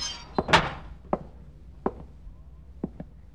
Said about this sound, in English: He opens a sun-warped screen door and enters the lobby.